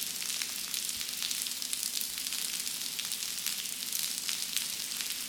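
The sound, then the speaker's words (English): Steady rainfall, a dense, even patter of countless tiny high-pitched ticks over a soft hiss, continuing without a break and with no voices. “How about a bit of rain?”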